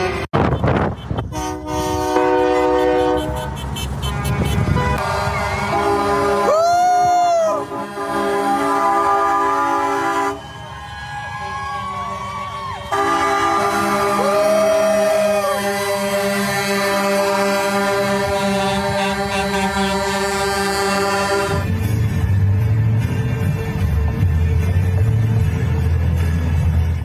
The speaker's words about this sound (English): Wow, this is a huge, look, they go forever. This is by Action Center outside of Edmonton, heading to Calgary, January 23rd, 2022. More than trucks, lots of cars and trucks. Very impressive. Goes on forever.